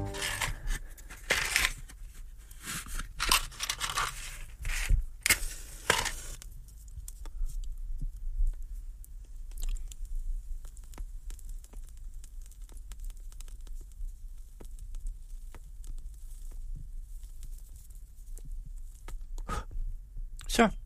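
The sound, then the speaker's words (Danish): A cigar being lit: a few sharp clicks and crackling bursts at the start, then a long quieter stretch of soft puffing, faint crackle and scattered small clicks. “Så er der ild på cigaren.”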